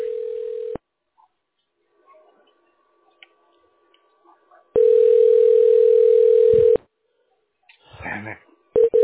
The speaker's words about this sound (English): Here we go. All right. Here goes ringing.